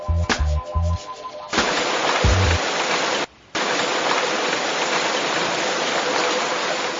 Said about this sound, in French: Ah, la pluie est de la partie. Pourtant, le ciel était bleu.